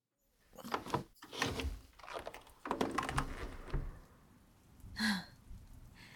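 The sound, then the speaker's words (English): A few clunks and rattles as a window is cracked open give way to a steady hiss of rain, moderately loud, which thins out toward the end, where a brief breathy sigh-like sound is heard. “You think I'd hear the sounds of rain, but I guess I just don't register that kind of background noise.”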